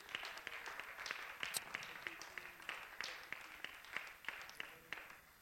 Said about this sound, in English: Why don't you clap your hands and applaud the Lord? He's good.